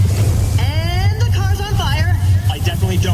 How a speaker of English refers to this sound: Progressive presents Flo and Jamie announcing a monster truck rally. And here comes the obliterator. Whoa. And he's up on two wheels.